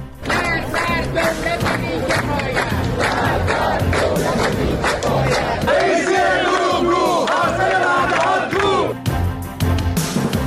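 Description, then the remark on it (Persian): A large crowd of Iranian retirees protesting in Iran chants and shouts together, many voices blending into a loud, continuous roar with rising and falling cries throughout. “تظاهرات اعتراضی دنباله‌دار بازنشستگان ایران در کشور.”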